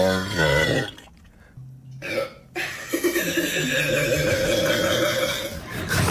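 A loud burp rumbles out, followed after a brief pause by a longer, drawn-out belch with a rough, gurgling tone that carries on for several seconds.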